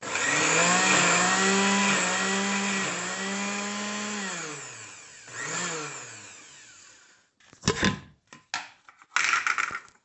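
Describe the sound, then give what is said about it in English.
A loud blender whirs steadily for several seconds, blending celery, onions, parsley, puree, serrano, garlic, tomato and cilantro, its motor pitch dipping and rising as it churns through chunky vegetables, then stops before a few short, choppy pulses. “So I just happen to have this mixture of celery, onions, and parsley, and then I've got some puree, and then I've got a serrano, some garlic, and I'm going to put it all in the blender with a little bit of tomato as well, and the cilantro.”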